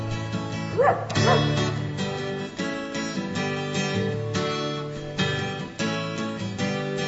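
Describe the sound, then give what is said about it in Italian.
A dog named Blow barks a couple of times in quick succession early on, loud, over a steady musical backdrop that carries on after the barking stops. “Mangio due biscotti, poi sento abbaiare il cane Blow.”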